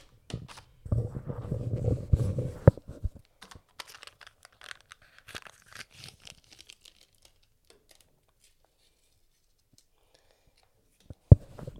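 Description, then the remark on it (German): Paper bag rustling and crinkling as someone fishes McDonald's fries out of it, loudest in a dense burst at the start, then scattered small crackles and taps thinning into near silence before one sharp knock at the end. “Ich muss hier mal ein paar Pommes rausfischen aus meiner Tüte.”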